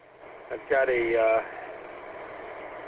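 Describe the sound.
A car engine idles in a driveway after the car has just been backed in, with a steady, low hum that runs the whole time, while a short wordless voice sounds briefly over it near the start.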